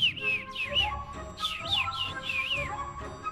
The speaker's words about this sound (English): Above them flew the little bird, chirping merrily.